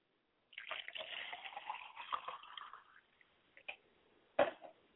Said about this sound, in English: I pour libations to the north, and I say, Ashe. I pour libations to the south, and I say, Ashe. I pour libations to the east, and I say Ashe. I pour libations to the west, and I say Ashe.